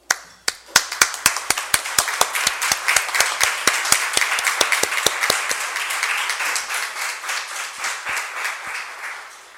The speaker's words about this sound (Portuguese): Agora, eu gostaria que todos levantassem, por favor, para que pudessem fazer uma salva de palmas a todos os professores.